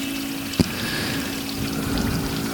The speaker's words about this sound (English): An easy way to arrive in the present moment is to listen to the sounds. If you strain your ears a little bit, you might hear the beautiful soothing sound of the waterfall on our Giriraj.